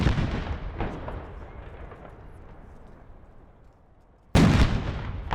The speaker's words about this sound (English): Kemp's final public activity of the day took place at Liberty Plaza outside the state capitol. The new governor and first lady participated in a review of military troops, complete with a demonstration of helicopters and a 19-gun salute.